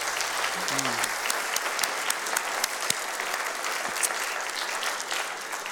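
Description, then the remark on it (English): A crowd claps steadily for several seconds, a dense, continuous patter of many hands with sharp individual claps standing out, loud throughout, applauding people as they leave. “Oh, let's give them a hand clap today as they go.”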